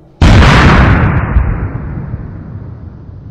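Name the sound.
bomb explosion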